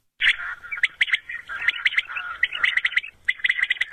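A quail call played through an illegal electronic lure used by poachers in Serbia during quail hunting season, luring birds within about 2 km, repeating bright chirping notes in quick bursts, fairly loud, with no voices.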